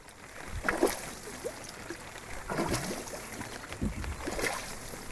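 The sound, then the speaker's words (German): A boat moves through monsoon floodwater to the village of Bipalmore in Bangladesh, with rhythmic splashing and swishing bursts roughly every second and a half over a steady watery wash, fairly quiet, no voices. “Ins Dorf Bipalmore kommt man heute nur noch per Boot.”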